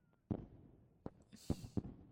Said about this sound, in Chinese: 外面隐约听到烟花声了，这还没到12点呢，大家都急着过年啊。